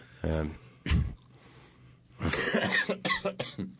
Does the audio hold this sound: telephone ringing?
no